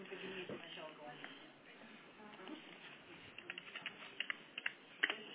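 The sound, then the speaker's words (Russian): Typing on a computer keyboard, a steady patter of key clicks that grows into sharper, more distinct taps toward the end, with faint background noise and some murmured speech. “Ой, а напечатала. По-русски надо печатать иногда.”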